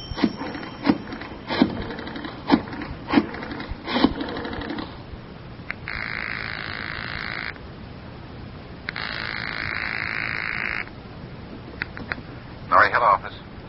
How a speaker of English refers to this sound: But I do get one break. While Crowder's checking in at the Wheelers Hotel, as part of the trap, I get a chance to get to a phone booth and call the FBI.